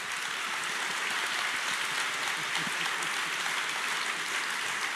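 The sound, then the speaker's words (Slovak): An audience at a live debate hosted by the newspaper Denník N applauds steadily, a dense, even patter of many hands clapping at once with no pauses and no voices, holding a constant moderate loudness throughout. “Pamätajú si ťa, mal si najväčší potlesk.”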